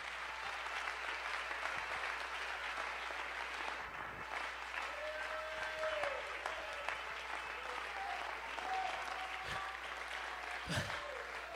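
A church audience claps their hands during a sermon in a dense, steady wash of applause that carries on for about twelve seconds, with a few faint voices and tones rising underneath.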